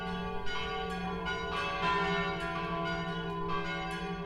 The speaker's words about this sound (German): Selbstverständlich sind auch die Glocken der Regener Stadtpfarrkirche St. Michael schon im BR archiviert.